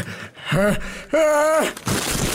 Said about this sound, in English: Excuse me, I'm going to sneeze.